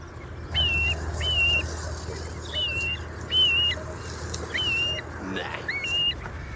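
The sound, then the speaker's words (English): A grey plover gives a series of plaintive, slurred whistled calls, about six of them at fairly regular intervals, clear over a low, steady background rumble. “I think it might be the grey plover. Here's what it sounds like.”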